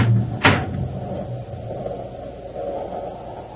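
household object, door being opened

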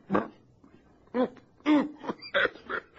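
human body sound, man coughing

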